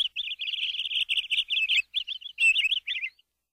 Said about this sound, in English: They're birds.